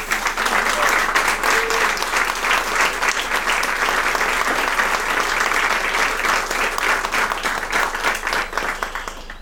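Sustained applause from an audience fills the whole stretch, a dense, steady wash of many hands clapping at even loudness, easing off slightly only at the very end.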